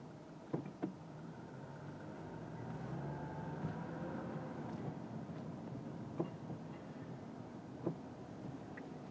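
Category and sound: vehicle, cars passing by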